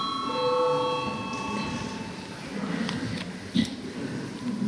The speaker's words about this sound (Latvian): Lūdzu zvanu. Balsosim par piekto priekšlikumu.